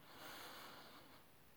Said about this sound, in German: Tiefes Atmen.